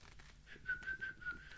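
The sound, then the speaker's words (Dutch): A child whistles a few short, soft chirps at a steady mid-high pitch, imitating a little bird, with no talking over it. “Wat doet het vogeltje?”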